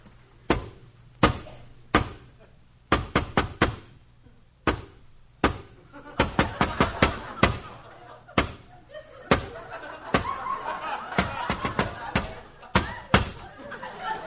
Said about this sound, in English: Just follow me right up these steps. I'll give this special knock.